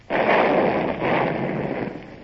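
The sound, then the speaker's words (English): A ship's cannons fire a broadside at soldiers marching on a road, in two heavy, booming blasts about a second apart, each trailing off in a broad, rumbling roar. No voices are heard. “Gerard, train the guns on the road and only fire when I give you the signal.”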